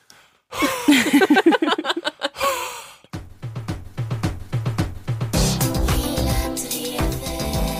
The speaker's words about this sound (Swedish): Har du en ångestattack? Va? Bara andas i en påse.